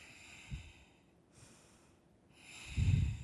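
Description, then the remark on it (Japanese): A voice imitates slow sleeping breaths heard twice, with a soft breathy puff followed a couple of seconds later by a louder, longer nasal exhale over faint background hiss. “それですね、いびきじゃなくてよかったけど、寝息が聞こえ2回ほど聞こえたんですよね。”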